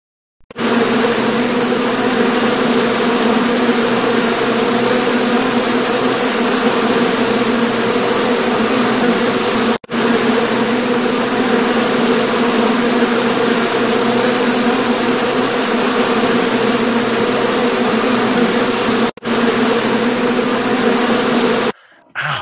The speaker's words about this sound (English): Have you noticed that bugs are really bad this year? I don't know. Maybe not in California. It's not so dry. Bad here. Yeah, but the skeeters here in Buffalo just awful.